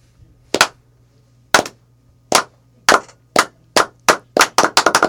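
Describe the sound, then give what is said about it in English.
A slow clap: sharp, crisp handclaps begin about a second apart, then quicken steadily into a rapid run of claps by the end, with no talking over them. “Can we just get like a slow clap going?”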